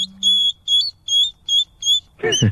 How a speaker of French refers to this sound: mais les bébés hérissons, ils perdent toute leur épine et après, ils en ont des nouvelles pour devenir adultes. Comme les dents, comme ouais, nous avec nos ça. Dents. Et ben quand le hérisson perd son épine, ça fait ça.